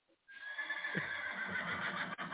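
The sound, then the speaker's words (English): A horse lets out a loud whinny that rises sharply and holds for about two seconds, with a faint clatter underneath and no voices. “Arrest that horse for murder.”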